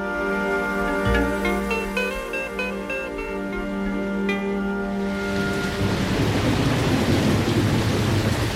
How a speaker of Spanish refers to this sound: Estamos aquí en Málaga otra vez y hay mucha lluvia.